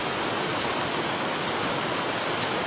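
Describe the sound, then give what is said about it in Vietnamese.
Steady, heavy rain pours down during a Buddhist dharma talk in an unbroken wash of hiss, loud and even throughout, with no voices or other sounds over it. “Giờ mưa kỳ cục quá.”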